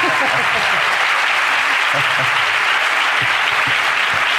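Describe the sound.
Loud, sustained applause from an audience in Málaga, a dense wash of clapping that fills the whole clip at an even level, with a few faint voices mixed in underneath.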